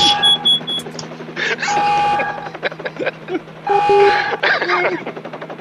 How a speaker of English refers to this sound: we really need that Lunk alarm on.